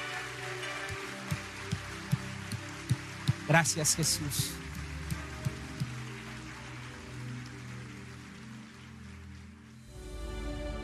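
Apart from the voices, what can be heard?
audience applause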